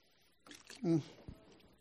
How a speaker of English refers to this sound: Okay, let me get a quick drink of water, because.